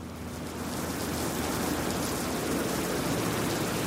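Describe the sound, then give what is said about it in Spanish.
Heavy rain from a drizzle that turned into a storm pours down in the cold outside a hotel, a dense, steady hiss across all pitches, swelling slightly louder after the first second and then holding constant with no voices. “Y la llovizna se convirtió en una tormenta.”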